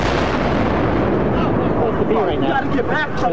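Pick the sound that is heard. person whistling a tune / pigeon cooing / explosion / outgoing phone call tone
explosion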